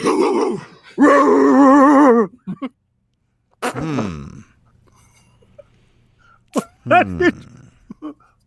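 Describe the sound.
A human voice imitates a dog barking: several loud, strained, growly yelps and howls in separate bursts, with short pauses between them.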